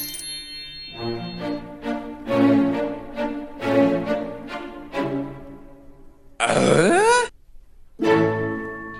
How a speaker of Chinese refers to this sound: 一听到黑胡椒猪肉汤，肚子立刻响起了很大的声音，他非常的饿。